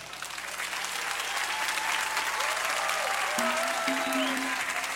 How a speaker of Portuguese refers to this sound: Esses aplausos, eu quero agora só os aplausos dos evangélicos.